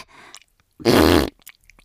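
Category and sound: human body sound, fart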